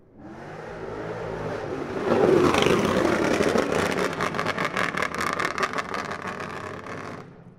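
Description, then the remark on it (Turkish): A car engine revs hard and loudly outside, climbing to a roaring peak and then breaking into rapid, throbbing bursts of throttle before cutting off. No voices are heard. “Ne oldu şimdi peki? Öttürdün, bağırdın, ne oldu? Ne eline geçti? Kime hava attın?”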